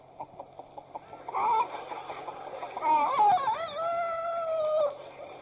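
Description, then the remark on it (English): A voice imitates a chicken: a quick run of short, clipped clucks, then louder drawn-out squawking calls that waver and slide in pitch, with no other talking. “Gabriel, who is looking down intently on the scene and who is very interested, said, I don't know, but it sounds like he said.”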